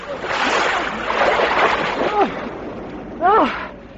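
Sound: person jumping into water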